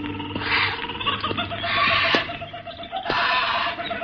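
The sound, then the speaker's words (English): Disturbed birds in Old man Kelso's huge aviary at one corner of the house squawk and screech in a dense, shrill chorus that swells in three loud waves, with sharp cries poking through a steady chattering din. “Old man Kelso had a huge aviary at one corner of the house. Something had disturbed the birds.”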